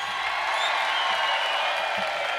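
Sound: theater audience applauding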